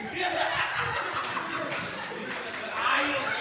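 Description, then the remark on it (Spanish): Audience applause after a joke about Hitler and "la mano ajena", a dense steady patter of many hands clapping at once, mixed with scattered laughter and murmuring voices, swelling slightly louder toward the end. “No puedo creer que dije un chiste buenísimo de Hitler y la mano ajena sacó aplauso.”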